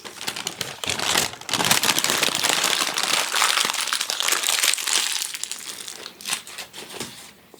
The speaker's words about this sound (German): Paprika. Ich muss nur das Papier weglegen.